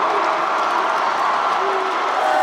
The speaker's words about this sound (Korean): 권역별 권리당원과 대의원, 또 재외국민과 국민선거인단에 이어 누적 득표율까지 90%를 넘나드는 수치가 발표될 때마다 전당대회장은 환호로 가득 찼습니다.